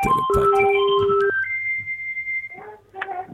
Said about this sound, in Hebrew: הנה, אנחנו שומעים את הטלפון מצלצל שם